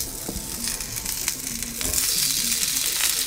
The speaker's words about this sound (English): That cast iron skillet is exactly where you want to be. So I'm going to... Oh, yeah. You hear that sizzle?